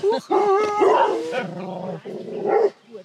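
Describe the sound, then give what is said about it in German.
Several dogs bark insistently and territorially as someone arrives, a rapid overlapping volley of loud, harmonic barks and yaps with brief pauses between bursts. “sind unsere Hunde schlecht erzogen? Nein, sie sind territorial.”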